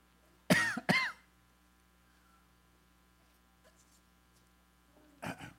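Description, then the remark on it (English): Two quick throat-clearing coughs in a row as a speaker takes a cough drop for a dry throat, then a pause with faint background hum before one more short throat-clearing burst near the end. No one speaks. “Excuse me while I throw a cough drop in my throat.”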